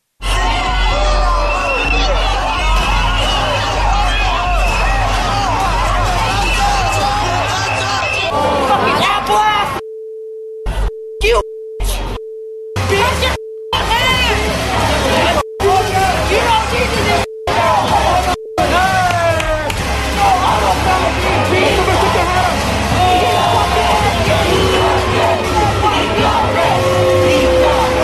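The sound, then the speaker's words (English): A loud, dense Antifa protest crowd yells and chants slogans such as 'eat the rich' and 'kill the cops' throughout, voices overlapping, while a steady electronic bleep tone repeatedly cuts in through the middle stretch. “They're yelling, eat the rich, and things that we can't repeat. Also, kill the cops.”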